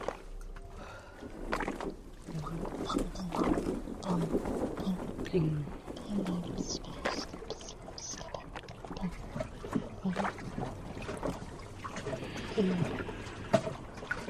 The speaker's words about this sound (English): En position de foetus, le pavillon de mon oreille est collé à la paroi. J'entends un clapotis incessant, un son qui roule et résonne dans tout le bateau tambour.